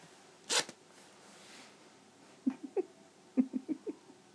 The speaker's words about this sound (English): as you rest your head, you suddenly lift it up to the sound of the zip on your pants being pulled rapidly down.